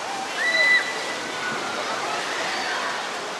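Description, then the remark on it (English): Steady, broad rush of sloshing, splashing water fills an echoing heated indoor wave pool in Tempe, with faint voices underneath and a brief high-pitched cry or whistle near the start. “They've got 15 minutes a wave in the wave pool, and then they open up the water slide for 15 minutes and kind of go back and forth.”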